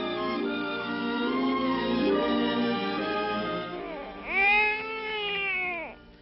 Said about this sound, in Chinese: 怎么搞的？怎么了？怎么了？我还没有到家就听见婴儿的哭声。哎呀，一定会被人听见的。快把他带到卧房去，关上门呐、啊！